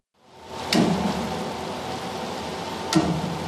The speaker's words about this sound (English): That's the popping sound of cables being pulled tight as they lift a 300-ton tugboat out of the water. I guess it was heavier than I thought.